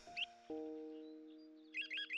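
Birds chirp in quick, bright bursts, one brief call near the start and a rapid run of tweets at the end, over a steady sustained musical tone.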